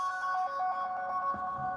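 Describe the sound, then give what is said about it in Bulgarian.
A mobile phone whose sound was left on rings with a rapid, repeating pattern of bright electronic beeps, fairly loud, with no one talking over it. “Тъп, бях забрал да си изключа телефона звука, извинявам се за което.”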